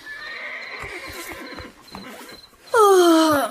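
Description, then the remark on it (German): At 2:15 in the middle of the night, a horse gives a loud whinny near the end, its harmonics sliding downward, after a stretch of quieter snorting and shuffling sounds with faint high tonal calls. “Was macht denn dieses verrückte Tier da jede Nacht? Oh, es ist 2:15 Uhr, mitten in der Nacht, du Pferd!”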